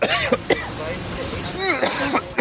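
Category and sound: human body sound, throat clearing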